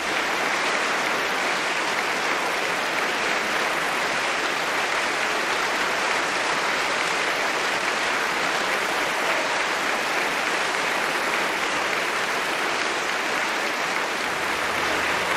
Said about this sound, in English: We have another bow by Alfred Brendel. James Levine is with him and asks the members of the Philadelphia Orchestra to rise and share this applause with them.